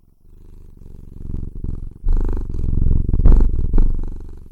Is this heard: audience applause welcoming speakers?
no